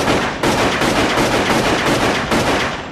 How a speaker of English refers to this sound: All four pressed themselves to the cell's wooden door, but were forced back when gunshots pierced it.